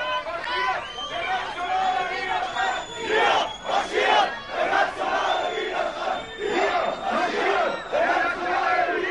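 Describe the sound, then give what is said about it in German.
A loud crowd of counter-protesters shouts and jeers at a demonstration march flanked by police in riot gear, while shrill, sustained whistles cut through the din, overlapping in long high-pitched blasts without pause. “Gegendemonstranten pfeifen.”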